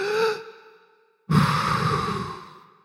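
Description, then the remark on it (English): A short voiced tone fades into a pause. Then a broad, airy rush of many people drawing in a deep breath swells and slowly fades over about a second and a half. “Everybody breathe in deeply.”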